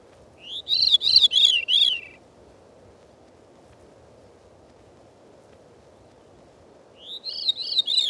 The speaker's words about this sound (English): Next, the veery's descending spirals.